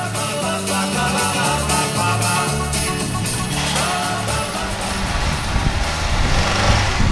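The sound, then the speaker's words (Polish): The engine of an old 1985 Polonez fire service car in Poland starts and runs loud, a rough, steady rumble with a throaty low drone that swells slightly toward the end. No one speaks. “Drodzy Państwo, to odpalił stary strażacki samochód Polonez.”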